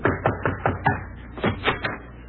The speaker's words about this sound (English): Somebody's pounding on the portal.